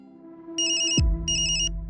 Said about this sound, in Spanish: Suena el teléfono y en la sala de la policía judicial todos se exaltan.